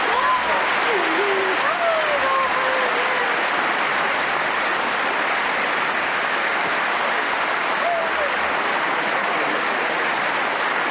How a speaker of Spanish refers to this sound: Mezclan los sollozos de Carolina Marín con los aplausos, la ovación atronadora.